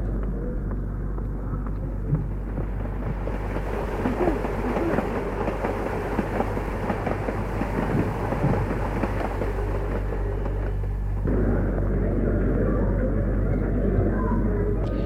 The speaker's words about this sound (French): Après une demi-heure d'attente, dans le courant d'air, les odeurs de vomissures, charbon et autres, le train est arrivé, ou plutôt est apparue une locomotive du fin fond des âges, un monstre noir qui crache de la fumée.